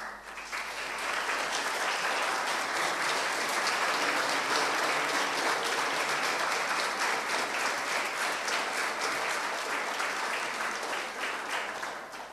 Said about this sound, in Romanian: Vreau să-l prezentați bisericii și să-l aplaudăm încă o dată.